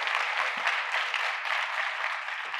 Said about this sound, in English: Give all of these people a round of applause because it's not easy to do this.